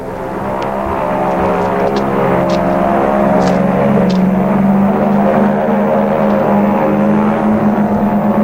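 propeller airplane in flight

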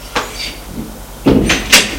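door opening

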